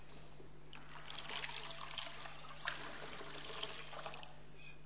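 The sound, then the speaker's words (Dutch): Water is poured into a baptismal font before a baptism, a steady splashing trickle that runs for several seconds, moderately loud, over a faint low electrical hum, with no talking. “Zou het water erin gieten?”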